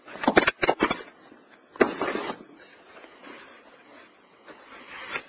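A sudden clatter of sharp knocks and rattles as something falls over, several quick impacts in the first second, another thud a moment later, then a faint tumbling rustle fading out.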